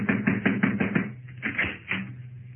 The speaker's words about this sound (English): I'll need you to knock on the door, Cavillo. Knock.